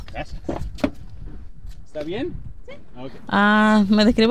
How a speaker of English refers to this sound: It's a little windy, so we climb into my car to talk. One of those old audio reporter tricks to reduce noise.